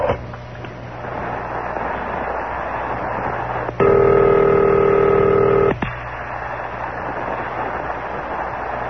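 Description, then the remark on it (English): A telephone line rings once as a call is placed to a charter airline, a steady buzzing tone lasting about two seconds, set against a constant hiss of background noise. Nobody speaks. “And this time, I'm disguising my voice and calling a charter airline.”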